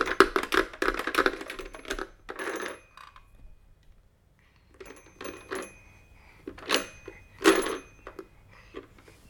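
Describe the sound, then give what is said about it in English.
Numbers being dialed on a toy telephone by a small child: bursts of plastic clicking and clattering come in irregular clusters, separated by brief pauses, with no voices. “Gonna dial the numbers?”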